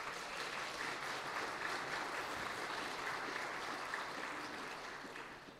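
An audience applauds steadily, a dense wash of many hands clapping at an even loudness for several seconds before slowly tapering off at the end, with no voices heard.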